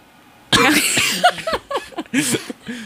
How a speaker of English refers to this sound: This shock turned into a cough.